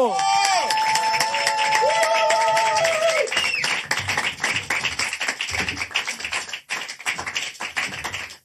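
Loud, dense audience applause with crowd cheering welcoming the evening's star guest on a small stage, opening over a sustained musical chord that fades after a few seconds, leaving a thick wash of clapping that thins toward the end.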